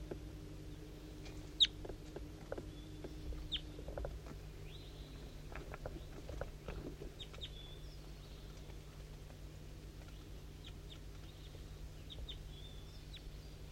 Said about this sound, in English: So recording, there's a wild bird coming around here. I can hear it kind of close up here, but I don't know exactly where it is. It's pretty foggy and I can't really tell what's going on.